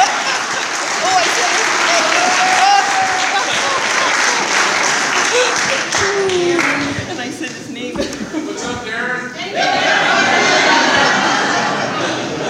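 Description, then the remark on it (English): A crowd applauds loudly and steadily for a speaker being introduced, with scattered voices and a few whoops mixed in; the clapping thins briefly near the end, then swells back to full strength. “Let's give a big round of applause”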